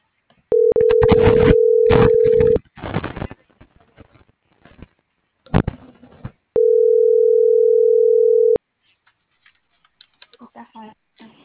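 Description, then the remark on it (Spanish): A steady telephone dial tone sounds twice, each about two seconds long, as a call is being placed, with tapping and handling clicks between them and a brief voice near the end. “ahorita me lo marco por aquí.”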